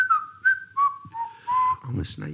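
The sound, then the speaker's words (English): Someone whistles a bouncy little melody, a run of clear held and gliding notes in a jaunty rhythm, ending with a brief burst of breathy voice noise. “I'm a snake. Whistling a jaunty tune.”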